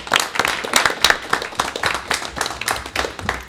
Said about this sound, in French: Donc déjà, on peut commencer par les applaudir bien fort.